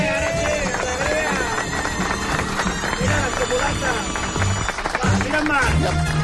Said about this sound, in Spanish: I aprofitarem aquest aplaudiment per donar la benvinguda a Marc Giró.